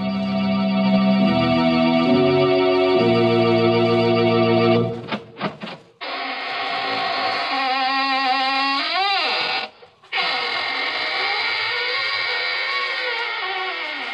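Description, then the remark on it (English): The opening of the radio show Inner Sanctum Mysteries: a few sustained organ chords give way to the host's long, loud squeaking door creaking open, its wavering, groaning pitch bending up and down with a brief pause before it creaks again. “This is your host, opening the squeaking door for another session of the AGGMS, the Association of Ghouls, Ghosts, and Midnight Spirits.”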